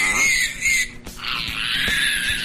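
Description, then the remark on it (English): A newborn male piglet, about 23 hours old, squeals shrilly and almost without pause while being handled, with a brief break near the middle and faint handling bumps beneath the cries. “All right, so this pig right now is healthier than he's been his whole life.”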